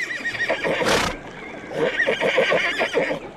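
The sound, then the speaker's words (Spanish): A horse whinnies loudly, a high wavering neigh with a brief breathy snort in the middle, set against an outdoor background. “Montados a caballo, el rey y el comandante aguardaban en la llanura situada al este del monte Itome la llegada de los parlamentarios y lotas.”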